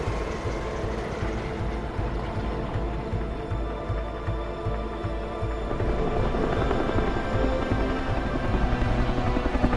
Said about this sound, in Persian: خدمات اورژانسی بیمارستان بفرمایید. بله، فوراً یه هلیکوپتر میفرستیم.